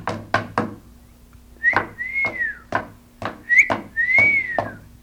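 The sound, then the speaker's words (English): A person whistles two clear, swooping notes that rise and then fall, interspersed with a series of sharp knocks in an irregular rhythm. No one speaks. “I'm whistling at you.”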